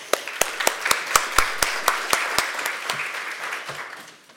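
An audience applauds, a dense wash of clapping with a few sharp individual claps standing out at a steady rhythm, fading gradually toward the end.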